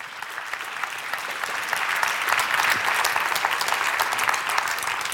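A room full of people applauds steadily, a dense wash of clapping that swells slightly and holds at a fairly loud level throughout, with no one speaking.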